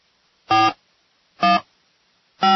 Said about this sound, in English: Let's see if we can go ahead and give Medea a ring